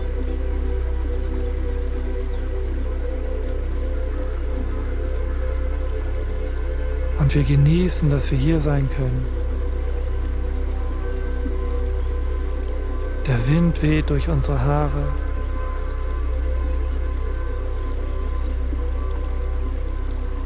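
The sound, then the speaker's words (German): A river babbles steadily and continuously throughout, an even wash of flowing water, while a calm voice speaks briefly twice over it. “Das gleichmäßige Plätschern des Flusses beruhigt uns.”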